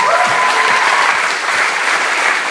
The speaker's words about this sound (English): Brilliant. Amazing. Round of applause.